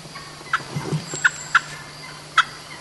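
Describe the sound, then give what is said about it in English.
A hen turkey yaps in short, sharp calls, four distinct notes spaced unevenly over a few seconds, clear against a quiet outdoor background with a faint low hum. “That's a hen yapping.”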